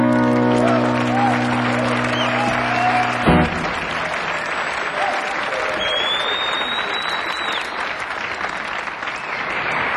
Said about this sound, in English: big, big hand for you.